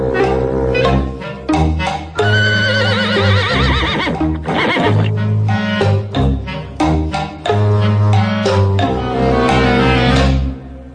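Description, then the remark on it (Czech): Loud, wavering horse whinnies cut through busy, rhythmic music, with a steady clopping beat like hooves running underneath for the whole stretch, as a woman rides the horse across the opposite slope. “Protějšího svahu jede ženská na koni.”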